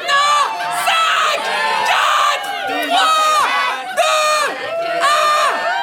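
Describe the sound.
A loud group of party revelers shouts together in rowdy, rising bursts, roughly once a second, many voices overlapping in boisterous chant-like whoops.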